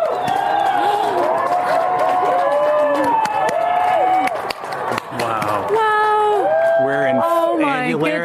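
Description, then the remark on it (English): A large crowd in New Mexico, US, cheers and whoops continuously while watching an annular solar eclipse, many excited voices rising and falling over each other, loud, with a brief dip midway before the shouting swells again. “Everyone is cheering.”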